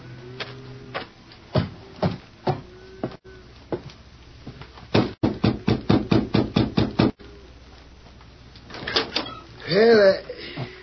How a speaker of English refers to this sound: And the following day, according to the Lone Ranger's instructions, reined up his horse in front of the Adams Ranch House. Oh, Victor, hold on. Doesn't seem to be here in the yard, Victor. I'll have to knock on a door.